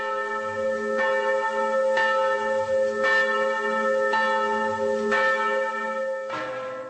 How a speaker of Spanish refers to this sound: Las campanas no han parado de sonar en la República Checa desde que, al mediodía del fatídico domingo, cuando la gente estaba más preocupada de realizar sus compras prenavideñas, trascendiera la noticia de la muerte de su ciudadano más ilustre,